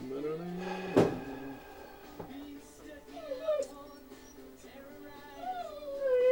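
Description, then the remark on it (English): A dog whines in a series of high, wavering, nasal tones that rise and fall, with a sharp knock early on and faint background murmur. “Dog's whining.”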